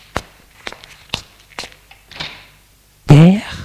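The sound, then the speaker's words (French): Four or five distinct footsteps approach across a hard floor after a ring at the front door, followed by a softer creaking swish as the front door is opened, then a person begins speaking. “L'on sonne à la porte d'entrée. Élise va ouvrir.”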